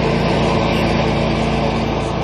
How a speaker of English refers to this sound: I have a lawnmower helping me this morning.